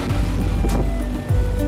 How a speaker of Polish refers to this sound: To jest tuk-tuk. To taki malutki samochodzik, przypominający motor z dachem. Bardzo szybko i przyjemnie można nim podróżować.